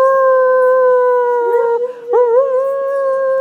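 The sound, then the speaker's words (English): A hound dog named Trini lets out one long, sustained howl with a steady tone that wavers and breaks briefly in the middle before resuming, loud, with no talking. “Shitty, that was Trini, that was a hound dog sort of.”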